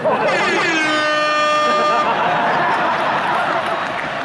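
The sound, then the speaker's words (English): A single loud air horn blast rings out for about two seconds, then cuts off, leaving a steady roar of crowd noise and indistinct voices underneath. “Now, that air horn pushed me over the top.”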